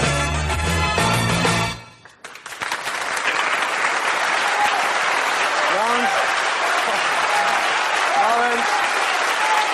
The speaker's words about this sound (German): Nein, also mit dem Beifall immer kurz fassen, weil wir müssen wirklich pünktlich fertig werden. Lieber am Schluss richtig und einmal.